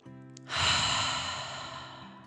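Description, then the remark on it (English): A voice performs a long, heavy, breathy exhale, imitating a dragon's deep breath, starting suddenly and slowly fading over about two seconds, fairly loud. “The dragon smiled even bigger and took a deep breath in and out.”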